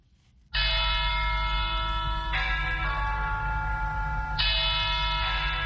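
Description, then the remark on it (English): Church bells at Our Lady of Victory's Cathedral in Yaoundé, Cameroon, ring loudly and continuously to invite Catholics to a mass, their rich overlapping tones sustaining and renewing with fresh strikes every couple of seconds, over a steady low rumble. No one speaks. “Church bells ring at Our Lady of Victory's Cathedral in Yaoundé, inviting Catholics to a mass to be said by Metropolitan Archbishop Jean Mbarga.”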